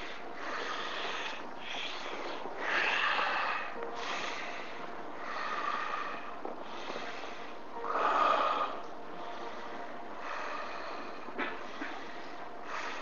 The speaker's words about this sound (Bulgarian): Сега нека да стане все по-тиха тази въздишка, все по-вътрешна. Докато дишането стане само през носа и вдишването, и издишването, продължавай.